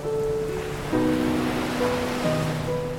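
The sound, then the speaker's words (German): Steady, rushing sea waves wash on without pause, a broad hiss of surf at an even loudness, with soft sustained musical tones humming underneath and shifting pitch now and then. “Hörst du das Rauschen?”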